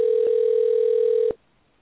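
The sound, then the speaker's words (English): A steady, loud telephone dial tone hums continuously for over a second, with a small click partway through, then cuts off abruptly with a click into near silence, during an attempt to get someone on the phone. “I don't think he can get on the phone tonight.”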